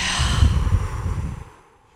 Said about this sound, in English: I just need to breathe. Yeah, just here. Let's do a breathing exercise together real quick,